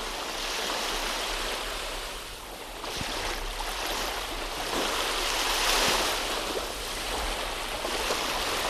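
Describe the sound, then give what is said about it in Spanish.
Steady rushing sea waves wash in continuously, a broad hissing surf with gentle swells rising and falling, heard alone without any voices. “Empezamos con este sonido del mar, con esta caracola de tu abuela.”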